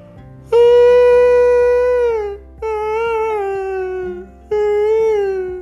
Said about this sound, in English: Oh my gosh, it's a baby seal.